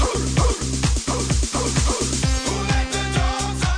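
Loud dance music with a pounding beat, with repeated dog-like barks chanted in rhythm over the track, energetic throughout.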